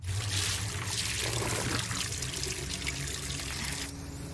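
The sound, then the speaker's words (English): Water pours steadily into a glass in a bedroom for a few seconds, for taking a pill with water, a continuous splashing rush that cuts off abruptly near the end. No one speaks. “In her bedroom, Daisy takes a pill. It should be taken once a day with water.”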